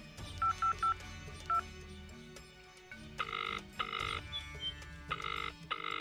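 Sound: telephone being dialed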